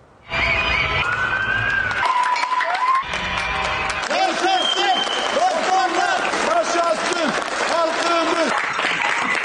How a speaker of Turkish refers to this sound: Akşam 9'da balkonlardan sağlık çalışanlarını alkışlıyorduk. Efendim saatler 9'u gösterdi. Türkiye bir kez daha balkonlara, pencerelere koştu. Koronavirüse karşı gecesini gündüzüne katıp canla başla çalışan sağlık çalışanlarını dakikalarca alkışladı.